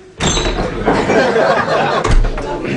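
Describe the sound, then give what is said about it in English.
A pub door opens and a busy murmur of chatter swells in at once, steady, with a brief thump near the end amid the crowd noise. “This time, try actually going in the pub.”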